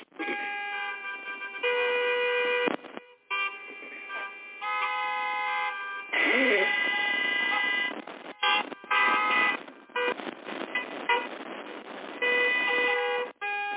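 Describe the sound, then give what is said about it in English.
A dense chorus of car horns in Monday morning road traffic congestion honks almost continuously, overlapping long blasts and short toots over a steady traffic rumble, loud, with no one speaking. “That's exactly what you'll be sitting in.”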